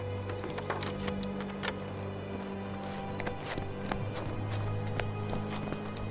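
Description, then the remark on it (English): Keys jingle and clink as they are set down, in a series of small metallic taps over a steady low background hum, with no one speaking. “Look, I'll leave the keys here.”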